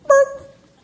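A single loud bark from a mother seal, short and harsh with a ringing, tonal edge that trails off quickly into quiet.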